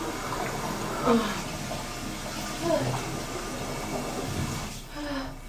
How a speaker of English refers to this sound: Give me 1 second. I'm just gonna pour a little bit of colder water.